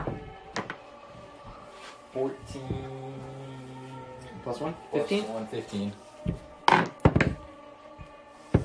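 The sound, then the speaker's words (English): A d20 die, rolled for a charisma check to see how loud a roar is, clatters across a wooden tabletop in a few sharp, hollow taps and knocks, scattered over several seconds, with faint murmuring voices underneath. “Roll a d20 and add your charisma to it.”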